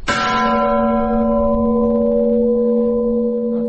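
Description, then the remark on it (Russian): A single deep strike of the lowest bell in a church bell tower, struck plainly as a first-time ringer would, with a buzzing, rattling edge, its low hum and layered overtones ringing on loudly and slowly fading over several seconds. “Например, вот самый низкий колокол на нашей колокольне.”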